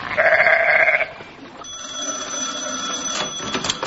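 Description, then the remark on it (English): A single loud, wavering sheep bleat lasts about a second, then gives way to a thin, steady high-pitched ringing tone with some clattering toward the end. “Go on, sheep. Shoot, shoot, sheep, shoot, shoot.”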